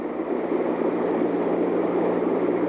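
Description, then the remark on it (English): A helicopter hovers during an astronaut recovery after splashdown, its engine and rotor making a loud, steady, unbroken mechanical roar with a low droning hum underneath, as the first astronaut, Colonel Scott, is pulled up into Commander Rankin's helicopter. No voices are heard. “The first astronaut has been pulled up into Commander Rankin's helicopter.”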